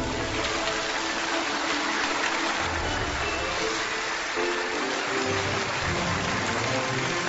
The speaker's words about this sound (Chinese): 那么今天我们的开讲就请来了在这个机场建设的过程当中非常重要的一个人，让我们掌声有请本期开讲嘉宾，北京大兴国际机场建设指挥部总工程师